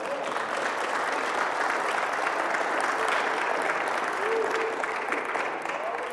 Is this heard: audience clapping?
yes